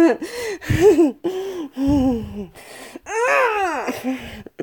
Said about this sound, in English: I just want you to gasp for breath, too.